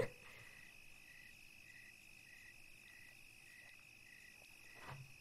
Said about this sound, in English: All I hear is the crickets.